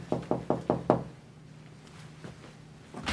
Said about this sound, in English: She knocks on a cubicle door.